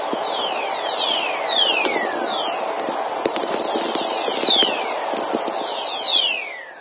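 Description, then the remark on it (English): Electrical energy from thunderstorm lightning, picked up by NASA's low-frequency radio receivers at the north and south poles: several gliding whistles sweep down in pitch, one after another, over a steady bed of dense crackling and popping static. “Remember, these are thunderstorms.”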